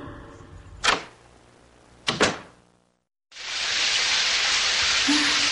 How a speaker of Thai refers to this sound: หวังจะให้น้ำแดงๆจากฝักบัวทำให้เราสบายใจขึ้น